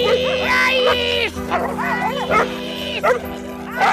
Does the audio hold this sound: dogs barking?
yes